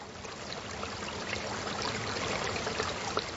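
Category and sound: nature, water flowing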